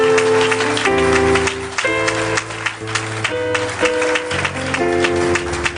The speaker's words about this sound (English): Now, if you are clapping, clap. You are clapping for Jesus. Clap very well. Clap very well.